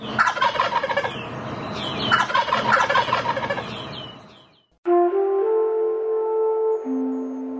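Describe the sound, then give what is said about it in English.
A young turkey gobbles loudly, two rapid rattling bursts back to back, then after a brief pause a steady, sustained tonal sound begins and continues. “couldn't kill the friendly, curious young bird who gobbled back when spoken to.”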